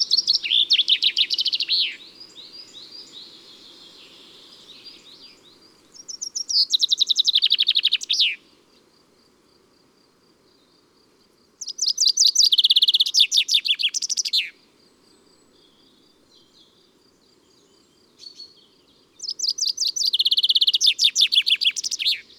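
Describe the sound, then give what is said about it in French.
A common chaffinch sings alone, clear, repeating its bright song four times with pauses between: a few well-separated notes, then a rapid, tumbling descending trill that ends in an emphatic flourish. “D'abord quelques notes bien détachées, puis une série plus rapide et descendante avec un final accentué.”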